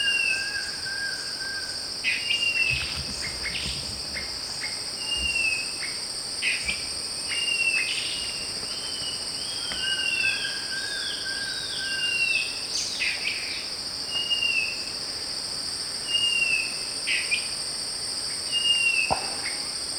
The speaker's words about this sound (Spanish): Grito de carpintero.